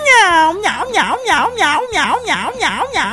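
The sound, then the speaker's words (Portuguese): A loud cat meows repeatedly in quick succession, about six drawn-out, wavering cries in a steady rhythm, with no other sounds around them. “Miau.”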